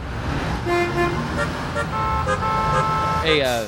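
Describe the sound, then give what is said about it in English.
Several car horns honk over a steady roar of street traffic, short overlapping toots sounding one after another, with a longer, wavering blare rising near the end. “We're stuck in traffic anyway.”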